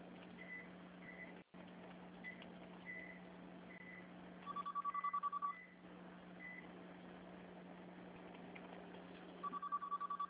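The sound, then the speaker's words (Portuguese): A telephone rings in two trilling bursts, each lasting about a second and spaced several seconds apart, over a steady low hum with a few faint, short beeps in between. “Um momento, vou atender o telefone.”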